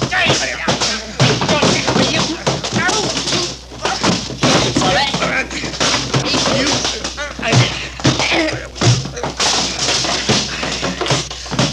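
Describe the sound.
A chaotic fistfight with rapid, repeated thuds and punches landing, crashing and scuffling nonstop, while voices shout and grunt throughout the brawl.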